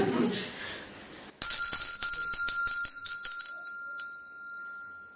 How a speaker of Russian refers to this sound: А то, что я взял колокольчик в свою руку, это было просто совпадением.